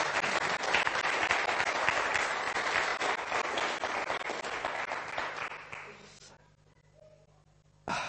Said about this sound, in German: Komm, lass uns denen mal einen Applaus geben, dass die Wikinger das da draußen hören. Und zwar lauter, als sie hier klopfend reingekommen sind.